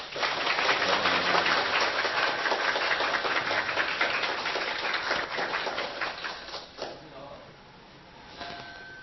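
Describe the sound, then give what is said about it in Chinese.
A crowd in the Tainan area breaks into warm, steady applause to welcome a visiting Buddhist elder, a dense crackle of many hands that holds for several seconds before thinning out and fading, with a voice starting up faintly at the end. “现在我们以热烈的掌声表示欢迎。”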